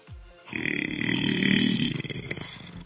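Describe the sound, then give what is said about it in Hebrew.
A person imitates a lion's roar on request during a live broadcast: one long, loud, raspy growl lasting a couple of seconds, swelling in the middle and breaking into rough pulses as it fades, with no talking. “בוא נמשיך הלאה, קול של אריה.”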